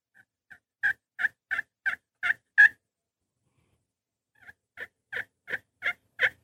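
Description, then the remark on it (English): Soft, muffled turkey hen tree calls, the call a hen makes on the roost: a run of seven short yelping notes building slightly, a pause, then another series of similar notes, fairly quiet with no talking. “So listen to the sound here of this tree call. And this is what the hen makes when she's on the roost.”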